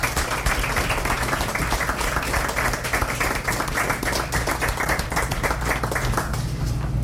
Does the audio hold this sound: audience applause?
yes